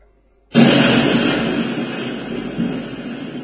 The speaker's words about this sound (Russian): Ну, вы поняли, что вы этот звук услышали. Это взрыв. Да? Ну, похожий, наверное.